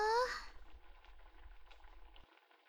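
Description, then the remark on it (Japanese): A pot of stew covered with a drop lid, turned to low heat after coming back to a boil, simmering softly: a faint, steady simmer with scattered small pops, preceded by a brief tonal sound like a short vocal sigh at the start. “そしてもう一度沸騰してきたら弱火にして、煮込んでいくよ。”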